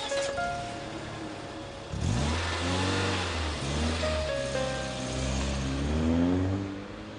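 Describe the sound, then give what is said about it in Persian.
A government car's engine revs up and accelerates, its pitch rising and falling through several gear-like surges, steady and fairly loud with no voices over it. “ما رو میرسونید تا صفی علی شاه؟ ماشین دولته.”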